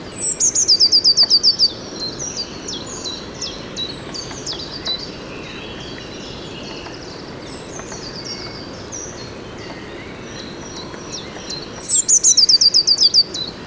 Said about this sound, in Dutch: Tjit, dit, dit, dit. Ja. Dat is er nog één. Dat zijn pimpelmezen. Deze ook, dichterbij nu.